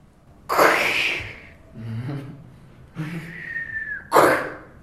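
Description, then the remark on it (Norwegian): A person vocally imitates a surprised glass shattering: sharp hissy bursts at the start and end, with a throaty groan and a thin rising whistle in between, without words. “Et overrasket glass som knuser.”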